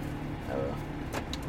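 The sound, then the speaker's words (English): A car door unlatches with a short, sharp click and release as it is opened, over a steady low rumble from inside a vehicle. “He got the door open.”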